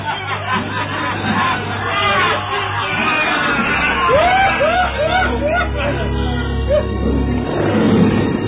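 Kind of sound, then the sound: animal, hungry lions roaring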